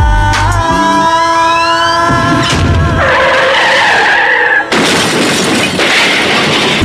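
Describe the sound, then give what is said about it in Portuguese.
A car's tires squeal in a long, high skid, then a loud crash erupts with a burst of shattering glass and scattering debris, intense, with no voices. “Meia barulhos de carros e vidros quebrados.”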